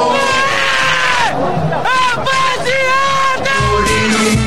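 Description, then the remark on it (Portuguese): A large crowd at a Corinthians versus Vasco football match shouts a loud, rhythmic chant, many voices rising and falling together in repeated phrases, continuous throughout. “E aí a galera grita: eu te amo, Claito”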